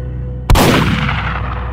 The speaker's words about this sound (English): The barrage of double-aught buckshot blew off the top of Tatters' head in a horrid spray of bones and brains and blood.